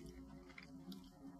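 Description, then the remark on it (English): Chewing of crispy fried chicken, with a few crunchy bites and soft wet mastication over a low steady hum. Nobody speaks. “We're chewing on air.”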